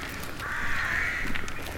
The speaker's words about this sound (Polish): I zawsze te ptaki. Taki trochę nastrój grozy robią tym krakaniem swoim.